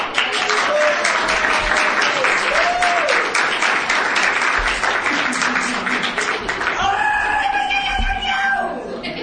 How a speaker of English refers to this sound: So we applaud you. We're grateful to you. We thank you.